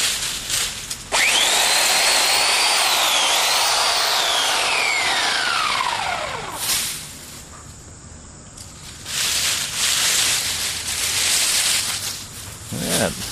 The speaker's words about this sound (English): I can't believe I never knew about electric chainsaws. Of course, it's not something you can take out in the woods with you. Unless you had a really long cord.